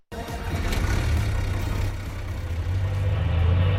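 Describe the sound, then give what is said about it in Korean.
A Seoul city bus on route 6623, running from the Yangcheon garage to Yeouido, drones steadily while driving, a continuous low rumble with mild shifts in pitch as it moves, loud with no voices. “서울 양천 차고지를 출발해 여의도까지 향하는 6623번 버스는 오늘도 활기찹니다.”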